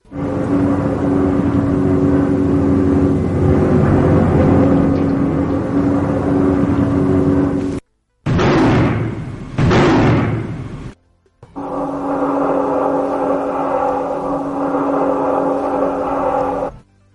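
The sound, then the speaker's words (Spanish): A wartime recording of old heavy machinery: a loud, steady engine drone of tanks and aircraft, interrupted midway by a few sharp, roaring bomb explosions before the rumbling resumes. No voices. “Estos sonidos son sonidos de guerra, son sonidos de maquinarias antiguas, son sonidos de tanques, de aviones y los bombazos que se han escuchado muy claramente.”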